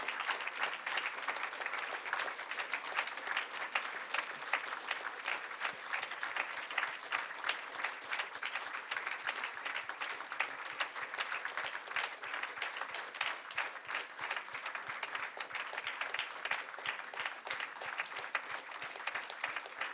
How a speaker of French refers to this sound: c'est qu'on avait prévu de faire un hommage sous forme d'applaudissement d'une minute à M. Louis Mbaka. Voilà, je vous invite à applaudir durant une minute pour pas oublier M. Mbaka.